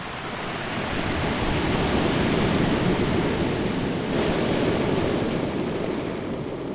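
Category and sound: nature, sea surf waves breaking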